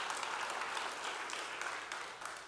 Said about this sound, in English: So let's just clap